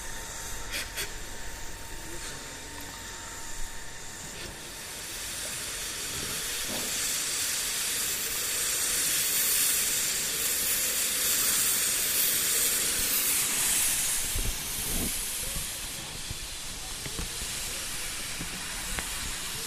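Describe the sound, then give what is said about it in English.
A steam locomotive hisses steadily as the driver does a final inspection before shunting forward, the rushing steam swelling louder midway and then easing off, with a few faint metallic clanks underneath. “So it looks like the driver's just doing a final inspection before it's time to shunt forward and then propel back onto the train.”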